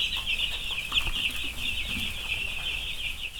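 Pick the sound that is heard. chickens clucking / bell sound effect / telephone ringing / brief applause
chickens clucking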